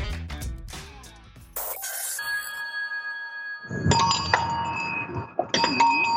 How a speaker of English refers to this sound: So what do we hear here? You might think that you're in the mountains of Switzerland, because what do we hear? We hear cowbells. These bells are significant because every owner, whoever has been here before, since probably 30 years ago, have had